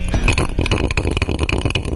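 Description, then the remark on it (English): An ice ball spinning in a whiskey glass: a steady, rumbling roll with a faint glassy ring and quick clicks scattered throughout, fairly loud and with no voices. “Yeah, it's an ice ball in a whiskey glass.”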